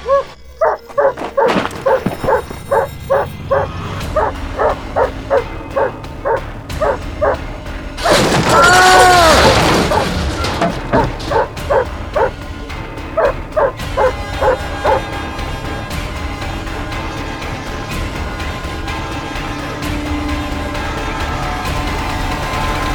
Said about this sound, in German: Ich hasse Hunde.